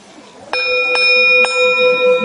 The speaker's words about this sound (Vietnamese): Cho nên cái người mà trước khi thỉnh chuông phải chuẩn bị tư thế đứng như thế nào, cầm dùi như thế nào, tâm tư phải như thế nào. Cái người mà nóng giận không được lên thỉnh chuông, tại vì họ mà nóng giận lên thỉnh chuông nghe biết liền à.